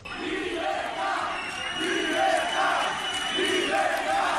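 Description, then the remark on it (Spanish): Abertzale groups shout on a Saturday morning in rhythmic, chant-like bursts, voices rising and falling together every second or so over a steady roar of many people, loud and continuous throughout. “Y así se entremezclaron el sábado durante toda la mañana los gritos de grupos abertzales, por un lado, y por otro, miembros de asociaciones de víctimas y simpatizantes del Partido Popular y de Vox.”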